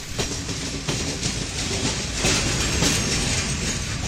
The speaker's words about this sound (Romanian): Ce viteză are trenul. Ia uite, gările trec în goană.